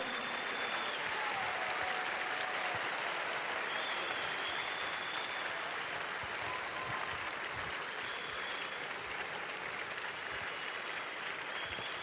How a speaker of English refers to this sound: Please keep clapping for them. Amen.